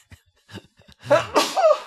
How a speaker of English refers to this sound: I have to sneeze.